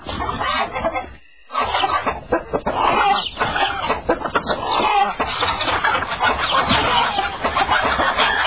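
A dense flock of chickens at a chicken farm in PE clucks and squawks continuously, many birds overlapping in a loud, busy chorus, with only a brief lull near the start.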